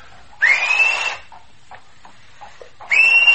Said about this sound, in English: I told him we'd whistle twice. Girls, it's ominous. My whistle has left me. Come and whistle, Uncle Veer. No, no. Now, you wouldn't disappoint your nieces. Do come and whistle.